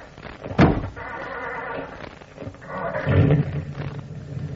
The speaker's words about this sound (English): let's give her a whirl. I'll start the motor.